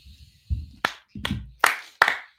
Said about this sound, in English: I'll clap for that.